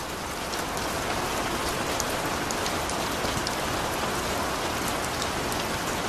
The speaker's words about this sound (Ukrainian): Равік стояв на дощі, що шмагав його, мов кулеметний вогонь із неба.